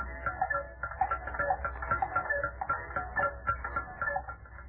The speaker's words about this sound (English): It is evening, and the silence is broken only by the tick-tock of many musical clocks. Listen.